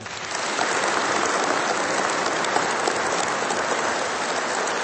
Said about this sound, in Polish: ale także dla księdza biskupa Antoniego gorące brawa.